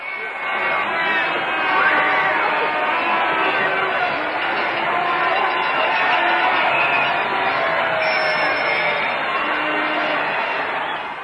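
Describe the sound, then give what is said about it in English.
A large crowd roars and cheers continuously, a dense wall of many overlapping voices holding steady at a loud level throughout, with occasional shouts rising out of the din. “We'd like to let you listen to the crowd.”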